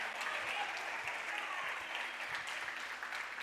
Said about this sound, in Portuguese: Você pode dar uma glória a Deus a ele e aplaudir a esse Jesus.